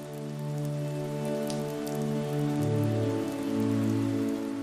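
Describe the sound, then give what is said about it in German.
Steady, fine rain patters softly and continuously, layered over a sustained, mellow musical drone whose low notes shift partway through; no voices are present. “Ein sanftes, goldenes Licht strahlt hinaus und beleuchtet den feinen Nebel des Regens.”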